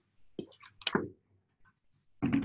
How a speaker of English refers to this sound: All right. Let me have some water.